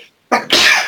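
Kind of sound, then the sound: human body sound, sneeze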